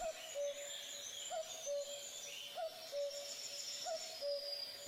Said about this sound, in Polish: Samce odzywają się wtedy charakterystycznym i wszystkim dobrze znanym dwusylabowym kukaniem. Ten niski w tonie, a przy tym głośny śpiew niesie się na kilometr i dalej o różnych porach dnia.